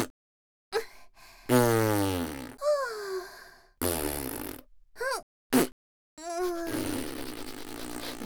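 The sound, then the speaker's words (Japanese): A long series of loud fart sounds: sputtering, buzzy bursts with wavering pitch, broken by short pauses and ending in one long drawn-out rasp. No one speaks. “うんこの前にケーキ漬けのおならをするわ。”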